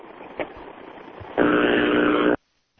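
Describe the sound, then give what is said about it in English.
A loud, rasping fart lasts about a second over a steady hiss of phone line noise on a call from a caller in Omaha, then cuts off abruptly into silence. “Okay, it was a fart.”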